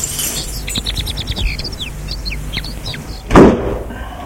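Birds chirp and tweet in quick, high bursts, then the door of an isolated house swings shut behind a woman entering, with a single solid thud that stands out above the birdsong.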